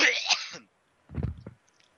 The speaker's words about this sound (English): that was quite a cough you had. I heard it all the way from Fort Max's microphone.